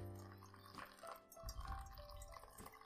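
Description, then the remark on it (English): Hot water is poured from a small kettle to make coffee, in a steady, quiet stream, splashing and gurgling into a glass vessel for a few seconds, with no talking. “All right, I'm going to start pouring.”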